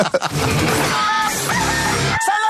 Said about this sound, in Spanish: Del gallo.